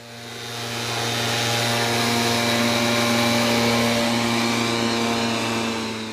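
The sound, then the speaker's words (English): A motorized insecticide sprayer drones steadily, its engine hum layered with a broad hiss of spray, as a Mosquito Squad pest control team sprays insecticide on a yard on the east side of Kalamazoo. It swells in over the first second or so and holds constant with no voices. “his pest control team at Mosquito Squad spray an insecticide on a yard on the east side of Kalamazoo.”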